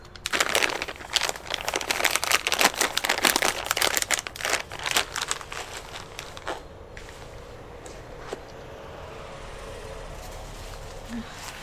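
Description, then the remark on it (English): Dense, rapid crinkling of plastic packaging as diaper-changing supplies are unpacked, busy and loud for the first several seconds, then thinning out to a few sparse rustles and clicks over a low background hum. “Get out all your supplies.”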